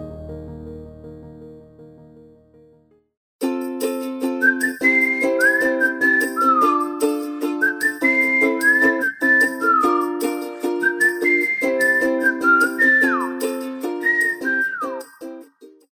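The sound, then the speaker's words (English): A cheerful whistled melody glides and trills over a bright, bouncy instrumental tune, following a softer musical intro, with no talking. “I was just telling my producer how much I like that cute little ditty of a song with all that happy whistling going on coming in and out of the show today.”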